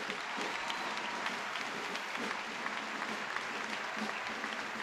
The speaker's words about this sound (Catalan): S'agafa l'enxaneta amb una mica de dubte, però ja està el balcó principal. Aplaudiments a la plaça pel Pilar dels Xiquets del Serrallo.